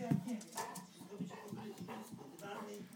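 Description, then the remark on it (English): A small female dog named Hodge lets out a run of high, excited yips and whimpers over about three seconds, with fairly steady loudness and a human voice murmuring underneath. “Now my little dog's going to come.”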